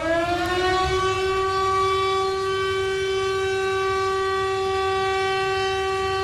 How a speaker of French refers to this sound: La sirène qui alerte donc de la vigilance rouge et des dangers, ça a été le déluge, dispositif hors sec activé par le préfet hier.